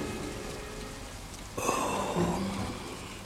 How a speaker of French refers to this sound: On entendait des gouttes de pluie sur le zinc. Ce temps brouillé le rendit tout mélancolique.